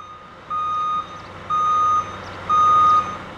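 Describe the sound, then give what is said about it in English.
A large delivery truck reversing on Monarch Street by Wagner Park in Aspen, delivering supplies such as tents and porta potties for a food and wine festival, its backup alarm sounding three steady, evenly spaced beeps over a low engine rumble, clear with no one talking. “Large trucks and tractors closed off Monarch Street by Wagner Park this week, delivering everything from tent supplies to porta potties for the upcoming festivities.”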